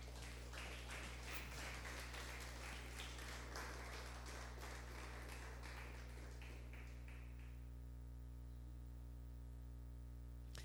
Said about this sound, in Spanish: Regálele un aplausito al papá.